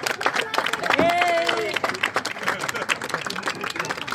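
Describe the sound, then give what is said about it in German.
A crowd with many young people applauds with dense, steady clapping that carries on for about four seconds, with a brief voiced cheer rising over it near the start. “Das ist mal ein Applaus wert.”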